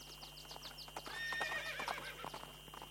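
Horses by a lake clip-clop with steady hoof taps while one lets out a shrill, wavering neigh in the middle, set against a constant high electrical hum and a low drone.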